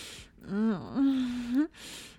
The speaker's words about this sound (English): And licking your balls under to come out gasping for air.